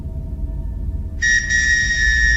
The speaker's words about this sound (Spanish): Una noche el ruido del silbato la espantó tanto que además de hacerla saltar, la hizo gritar.